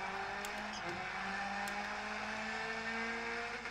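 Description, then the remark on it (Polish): A racing game car engine drones steadily, its pitch holding a low sustained hum with slight shifts, continuous and fairly loud throughout with no talking. “Zaraz pojeździmy, mam ustawiony dosyć średni poziom, taki średni wysoki, więc...”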